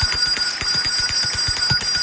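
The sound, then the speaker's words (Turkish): A short bright chime jingle with sustained ringing bell tones over a quick, steady pulsing beat, loud, with no voices. “Zil sesinden sonra hem suyumuzu lıkır lıkır içelim hem de su içerken elde ettiğimiz faydayı dinleyelim.”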